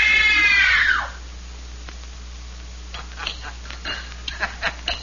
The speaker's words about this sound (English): It was only a simple scream test. Just to see how well … can follow direction.